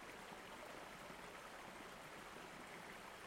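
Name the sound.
stream of water flowing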